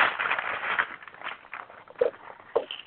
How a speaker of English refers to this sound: Somebody's shuffling their books over there. I'll wait till you finish.